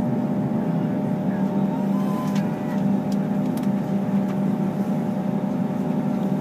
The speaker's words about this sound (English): Oh, yeah. Spinning fast. Yeah, they're starting the engine on this side. I hear the noise.